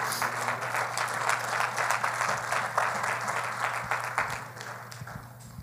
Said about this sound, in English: Clap your hands and you can be seated.